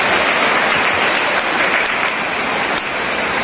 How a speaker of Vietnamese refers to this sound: Mưa lớn quá có ồn lắm không, có nghe rõ không? Các vị ở dưới có nghe rõ không?